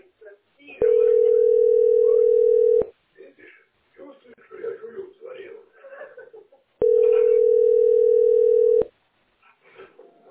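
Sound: telephone dial tone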